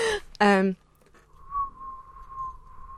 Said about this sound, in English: Why are you whistling at me? It's like tumbleweed, you know, just to illustrate it. I thought that was quite good, actually. My whistling.